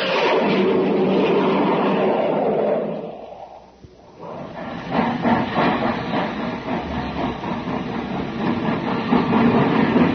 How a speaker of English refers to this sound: Hey, did you hear that, gang? That was the Terra Express train trying to get up speed on ordinary fuel. Not very speedy, was it?